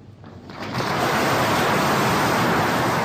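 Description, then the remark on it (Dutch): Hearty applause from a crowd swells up within the first second, then holds as a loud, dense, steady wash of clapping with no voices on top. “Flink applaus.”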